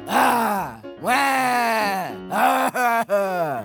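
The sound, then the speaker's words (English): A voice speaking as Pet Lamb, a talking sheep, imitates crying with long, wailing, moaning sobs, three drawn-out cries that fall in pitch, the last broken by quick catches of breath. Loud and theatrical, with no words spoken. “So instead, I will approximate the sound of crying.”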